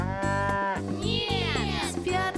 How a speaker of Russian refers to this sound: Корова.